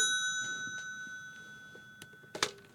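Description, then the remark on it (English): A telephone rings with a steady, bright bell-like tone that sustains throughout, fairly quiet, followed near the end by a brief sharp clatter. “Oh, what's that? Somebody on the phone?”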